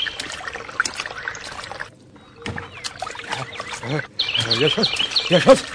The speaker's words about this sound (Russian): Василий быстро раздевается и лезет в воду.